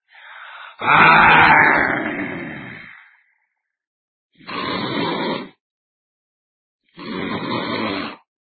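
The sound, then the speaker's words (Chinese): A voice imitates the loud snoring of a man in a drunken sleep: three harsh, rasping snores separated by pauses, the first long and strongest, the next two shorter and evenly spaced. “哎，这多好，气着了，离多远都能听见打呼噜的声音。”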